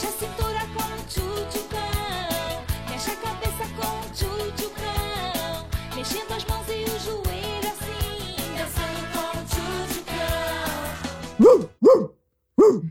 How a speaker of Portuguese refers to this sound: Eu não esperava esse latido, não.